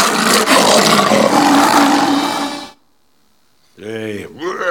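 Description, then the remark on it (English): A lion lets out a loud, rough roar that rumbles on for nearly three seconds and then cuts off, followed by a short silence and a brief burst of a person's voice. “We love all that roaring, don't we?”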